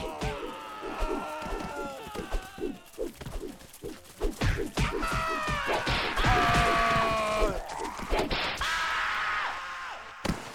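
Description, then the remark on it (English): Rapid, loud punch impacts from a boxing video game, thwacking in quick irregular bursts, followed by drawn-out vocal-like game sounds and what seems to be a voice. “Game result, final score 86,946. Punches 382, hits 96, accuracy 25.20%.”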